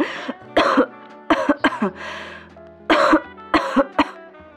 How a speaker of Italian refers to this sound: ti senti bene? Questa tosse non mi piace. Non si preoccupi, detective. Sono abituata.